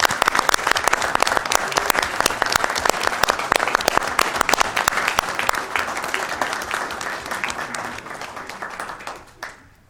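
Steady audience applause for the State Lands Commission staff, many hands clapping in a dense, loud patter that holds for most of the stretch before thinning out and fading near the end.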